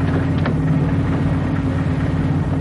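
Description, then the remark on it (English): A car engine runs steadily, a low, even rumbling drone with a constant hum that holds at the same level for the whole stretch, with no voices over it. “Let me know if I'm going too fast for you. Beep. Beep. Lug a lift, Sergeant?”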